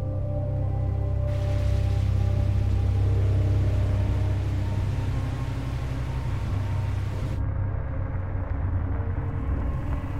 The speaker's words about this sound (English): Dusk. Frost covers the road. A distant car drives toward the SUV.